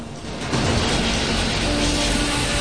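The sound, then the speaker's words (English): At an oil refinery, a steady, loud rush of steam jets hissing through pipes swells up after a brief quieter moment, with a low mechanical hum from huge machines digging in the earth running underneath. “an oil refinery, huge machines digging in the earth and jets of steam hissing through pipes.”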